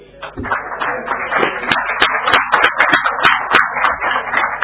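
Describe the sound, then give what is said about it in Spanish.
A group applauds a jurist, a doctor of law, steadily for several seconds, a dense patter of overlapping claps at fairly even loudness, with a few murmured voices mixed in underneath. “para el cual bien lo podrían aplaudir, porque no.”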